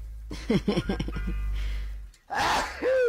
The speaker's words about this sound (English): Hang on, I gotta sneeze.